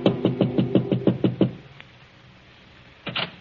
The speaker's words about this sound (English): Frank Gerard in his apartment lolls and considers the past and the future. Then, as he prepares a drink, there is a soft knock at his door.